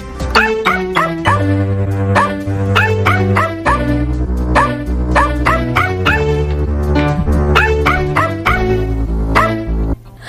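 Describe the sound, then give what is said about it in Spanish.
Dog barks pitched into a bouncy melody, fired off in quick rhythmic bursts over a steady musical backing, played for World Dog Day on Thursday 21 July. Loud throughout, with no talking. “Es jueves 21 de julio, el Día Mundial del Perro.”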